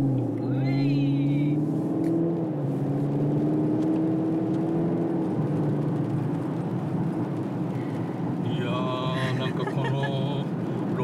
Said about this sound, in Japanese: でこぼこを拾う感じとかエンジンの音とか ねえ、なんか昨今は静かに優雅にみたいなところあったから ね、 もう本当最近の車ってみんな静かで、はい、乗り心地もいい車ばっかになってきたんで、